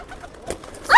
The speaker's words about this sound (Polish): Jak słodko gruchają teraz. Ty, jest jeden taki biało-różowy. Ekskluzywny gołąb.